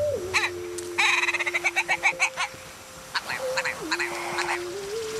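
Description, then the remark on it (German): A ptarmigan cackles in a rapid run of harsh, clicking notes that speed up and fade, then a second shorter burst follows, against a steady low hum, in a treeless snowy mountain landscape above 1100 metres around Hallingdal, Norway. “Kein Baum, nur Schneeglitzern, Hasenspuren und das Gackern eines Schneehuhns.”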